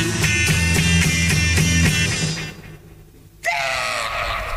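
A singer lets out a loud, sustained scream over dense, driving music at the end of a song, with a brief drop in the instrumentation before a final strained cry.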